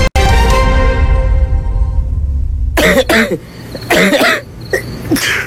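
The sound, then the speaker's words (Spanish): A ringing tone fades out, then a person coughs several times in loud, harsh bursts with some throat clearing between them, with no talking. “Uno sabe reconocer cuando algo no anda bien con tu salud o la de tu familia, porque los síntomas no mienten. Tos, flema, fiebre, decaimiento.”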